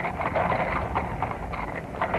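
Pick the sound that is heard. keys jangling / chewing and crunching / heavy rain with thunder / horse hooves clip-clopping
horse hooves clip-clopping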